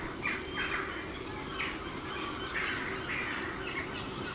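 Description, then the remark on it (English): Seagulls and other birds call repeatedly in the sky over a steady low background hum, with several harsh, bright cries rising and falling in overlapping bursts, at a spot below mature sycamore, ash and beech trees in dry weather. “And seagulls are joining the fray. So many birds in the sky, actually.”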